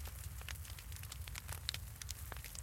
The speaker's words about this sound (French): Plus de vent, plus de bruit, excepté le mouvement du feu.